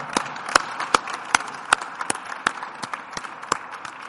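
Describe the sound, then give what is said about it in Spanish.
An audience applauds, a steady patter of many hands with sharp individual claps standing out at an uneven rhythm, moderately loud and continuing throughout without voices. “Un aplauso.”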